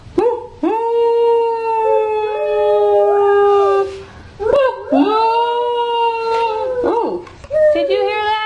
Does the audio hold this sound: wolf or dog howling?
yes